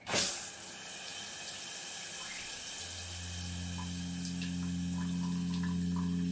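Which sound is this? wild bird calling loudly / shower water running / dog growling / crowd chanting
shower water running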